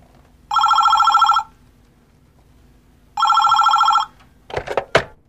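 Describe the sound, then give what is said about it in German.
A telephone rings twice, each ring a loud, buzzy electronic trill lasting about a second, separated by a pause, followed by a couple of short clattering clicks at the end. “Was verschafft mir die Ehre deines Anrufs?”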